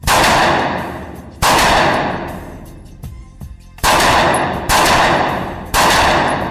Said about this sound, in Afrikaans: Die handwapen challenge is op 15 meter, 2 kopskote wees op die teiken en 3 borskote. Elke skoot op teiken sal 5 punte tel.